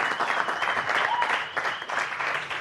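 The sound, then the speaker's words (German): Steady audience applause at Apfelwein-Wagner for a prize-draw winner, a dense wash of many hands clapping at a fairly even loudness throughout, with a faint voice or whistle briefly poking through. “Tosenden Applaus bitte hier bei Apfelwein-Wagner, meine Damen und Herren.”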